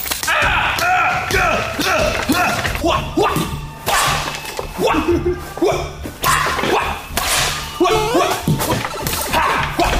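Repeated soft, dull thwacks of something beating a dirty Labubu plush toy, dirt flying off with each blow, landing in a steady irregular series, fairly loud, with bits of voice mixed in between the blows.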